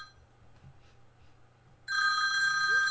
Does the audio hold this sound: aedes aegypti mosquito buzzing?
no